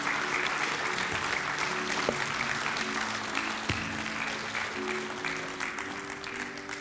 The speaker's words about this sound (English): Can we clap to the Lord this morning for his greatness and his goodness?